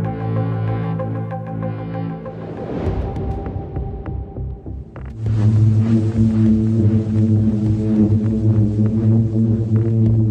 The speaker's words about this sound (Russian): Это не звук мотора или какой-то трубы. Так поют пески. Явление возникает из-за электромагнитного взаимодействия потока воздуха и песка. Песчинки получают схожий по полярности заряд и при столкновении будто поют.